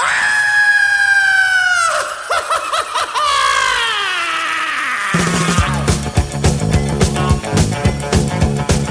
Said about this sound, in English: I'm gonna scream and scream again.